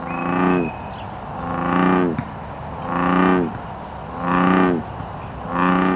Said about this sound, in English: In the Willamette Valley, we have two common frog species, the Pacific chorus frog and the non-native American bullfrog. Bullfrogs make a bellowing call.